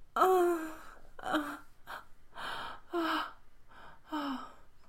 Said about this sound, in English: Oh, was that me screaming? I think I scared you. I'm sorry.